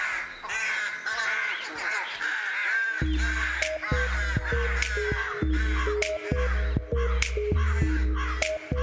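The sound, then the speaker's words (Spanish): A flock of ravens at the Tower of London caws harshly and repeatedly, many overlapping calls; after a few seconds a steady melodic music bed comes in beneath the continuing caws. “Cuenta la leyenda que si se marcharan los cuervos que viven en la Torre de Londres, la torre caería y de paso también la monarquía británica.”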